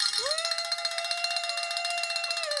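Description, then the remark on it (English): A bell, rung a second time for a second founder, rings steadily for nearly three seconds, a bright, high metallic tone with a fast rattling pulse, rising at the start and tapering off at the end. No one speaks. “Now number two for the second founder. So either bell, doesn't matter.”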